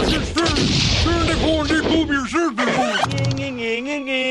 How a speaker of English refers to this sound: You couldn't hit me with a... cannon? Hey, everybody! He's got a cannon!